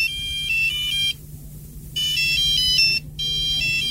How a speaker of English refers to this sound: Abigail Longley from Hull really hates cheesy mobile phone rings. Diddle-a-da, diddle-a-da, diddle-a-da, da. Apparently it's the one that she really hates. Let me just see if I can... I found one the other day. I got sent to my phone on the internet.